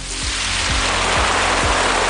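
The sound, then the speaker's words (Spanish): Rain falls steadily in a dense, continuous hiss. A faint low, rhythmic pulse recurs about twice a second beneath it, and no one speaks. “La lluvia nos tiene prácticamente abandonados en la Comunidad Valenciana”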